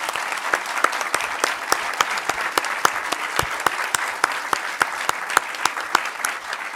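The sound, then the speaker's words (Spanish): An audience applauds steadily, many hands clapping in a dense, crackling wash with sharper individual claps standing out throughout, no voices heard. “yo creo que le tenemos que hacer un reconocimiento y un aplauso.”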